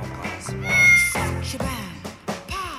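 A cat meows several times in quick succession, drawn-out, wavering calls that are fairly loud, with the first one the longest and strongest.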